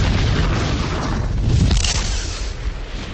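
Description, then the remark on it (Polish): A large-caliber artillery shell explodes at the Prom outpost with a deep, rumbling boom like summer thunder that rolls on for a few seconds, loud, with no voices. “Na placówce Prom jej dowódca, chorąży Gryczman, stał na ziemnym wale, obserwując przedpole, gdy usłyszał huk jak bliski grzmot letniej burzy, a podmuch rzucił go na dach schronu.”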